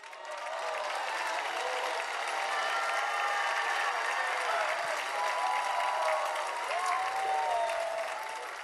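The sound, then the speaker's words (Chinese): An audience claps their hands to welcome the high priest, in sustained, dense applause that swells in quickly and holds steady for several seconds, with faint voices and cheers mixed into the clapping. “我要你一起拍手欢迎我的大祭司。”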